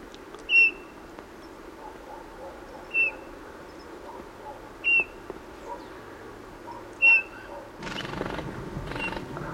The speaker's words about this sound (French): Bruit des ailes, il s'envole.